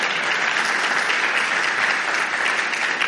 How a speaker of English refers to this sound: Okay, so that's all of our parking lot people, our ushers, our security. Can we give a round of applause to our first impressions people?